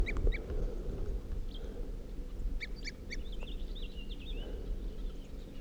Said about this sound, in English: This tree I was looking at with a tooping crossbill. Three other crossbills just arrived and sat down in the same tree. It's 8:25 p.m. There's one bird calling, and he just flew right past me down to the southwest